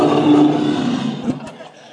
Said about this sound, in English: Have you heard a roaring lion?